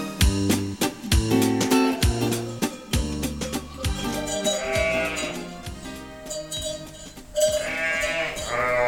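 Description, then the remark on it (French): A sheepfold holding about 80 ewes, many overlapping bleating calls rising and falling, plus knocks and shuffling from the animals moving about. “Là, il y en a combien dans la bergerie ? Là, il y a 80 brebis, et donc 80 brebis non suitées, donc 80 brebis sans agneau.”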